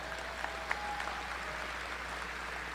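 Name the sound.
audience applause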